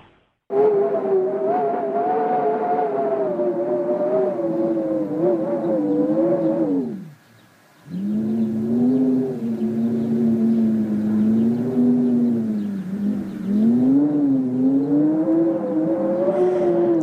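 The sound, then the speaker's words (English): Wind moaning through cypress trees in Pissouri, Cyprus, on a warm, blustery evening makes a steady, loud tonal howl whose pitch slowly wavers up and down, dropping away briefly partway through before resuming. No one speaks. “It's actually the sound of wind blowing in Pissouri cypress.”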